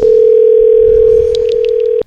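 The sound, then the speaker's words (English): A loud, steady telephone dial tone hums continuously for about two seconds while a call is being placed, then cuts off abruptly, with a few faint clicks in the background and no voices. “So my number is coming up as 666 right now on their phone.”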